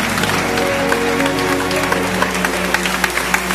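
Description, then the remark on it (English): A church audience applauds in praise of God, a dense wash of many hands clapping at once with sharper individual claps popping out, over a low sustained hum from an organ or keyboard. “Come on, clap until you feel it.”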